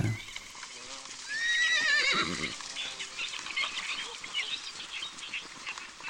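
A horse lets out a loud, quavering whinny lasting about a second, followed by snorting and shuffling noises against a busy, hissy outdoor background.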